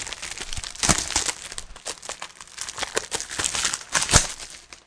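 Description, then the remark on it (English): Plastic shrink wrap is ripped and peeled off a sealed slide-out software box, a busy run of crinkling and sharp tearing bursts with a few louder snaps, lasting several seconds with no talking. “That's me shaking it at the microphone, and now I am going to devalue this by ripping off the shrink wrap, and let's take a look inside.”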